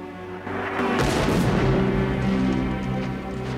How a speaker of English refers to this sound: Navy ships bombard the fort with cannon fire in the distance.